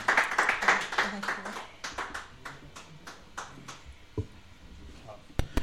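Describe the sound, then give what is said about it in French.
Audience applause for two performers on the show Tous en scène et plus: a burst of many hands clapping that quickly thins into scattered, individual claps, with a few sharp late claps and faint voices murmuring underneath. “On peut les applaudir, bien sûr.”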